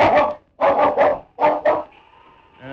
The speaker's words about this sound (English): That mutt can't reach us up here. Drop your gun, I said. All right. Now, put the dog outside.